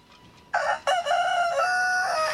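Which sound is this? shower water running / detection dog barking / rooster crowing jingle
rooster crowing jingle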